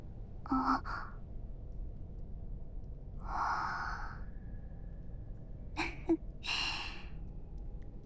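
A big, breathy yawn up close, with a few drawn-out sighing exhalations and short gasping breaths spread across a quiet stretch. No one speaks.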